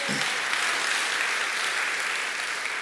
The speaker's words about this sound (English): let's give a hand clap of praise.